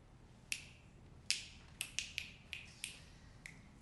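A series of sharp finger snaps, about eight in loose, uneven rhythm, each a crisp bright click with a short ring, heard alone over a faint low hum.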